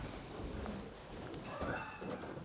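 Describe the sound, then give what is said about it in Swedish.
A male horse shifts and moves, its hooves striking a few irregular, muffled clops over a steady, noisy outdoor background. “Otroligt klok häst.”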